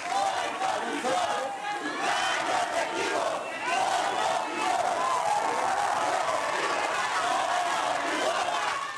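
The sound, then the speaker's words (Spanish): A large crowd shouts the protest chant "sufragio efectivo, no imposición" in unison during a live broadcast of Adal Ramones's TV show, a dense, loud roar of many voices that holds steady for the whole stretch, with slight rhythmic surges as the chant repeats. “Así como lo escucharon, chavos, la gente empezó a gritar sufragio efectivo, no imposición.”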